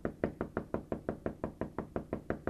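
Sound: knocking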